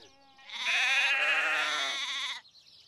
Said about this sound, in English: Let's feed the sheep, says Broccoli. Come here, sheep.